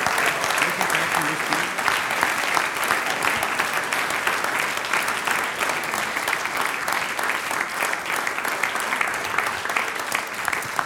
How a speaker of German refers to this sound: Das ist euer Applaus. Bitte sehr.